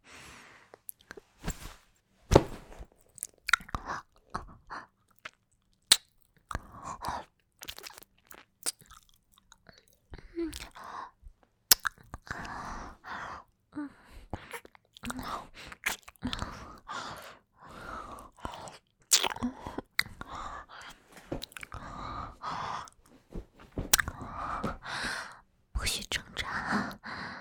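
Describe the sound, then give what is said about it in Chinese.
Wet sounds of someone biting another person's gland and chewing, with sharp crunchy clicks scattered irregularly throughout and soft whispering breaths running underneath, all quiet and intimate. “那腺体，我要腺体，你凑过来，让我咬一口，好不好？”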